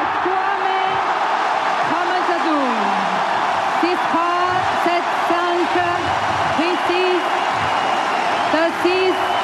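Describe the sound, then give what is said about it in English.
A frenzied tennis crowd on the Suzanne Longlin court erupts in loud, sustained cheering and applause as 17-year-old Moise Kwame wins on match point against Adolfo Daniel Vallejo of Paraguay, dense clapping running throughout with shouts and whoops rising above it. “The crowd's gone mad.”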